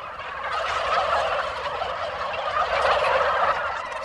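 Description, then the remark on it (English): A large flock of white turkeys with red wattles gobbles nonstop on a family-run turkey farm, their warbling calls overlapping into a dense, steady chatter that stays loud throughout, with no one speaking. “He's 21 and runs his family's turkey farm.”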